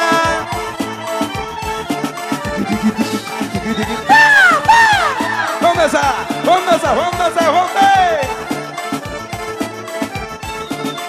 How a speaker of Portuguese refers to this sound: Cadê o gritinho da minha galera?